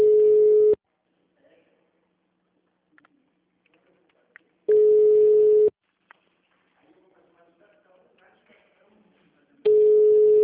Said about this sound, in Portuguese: Como é que pode um banco não atender telefone?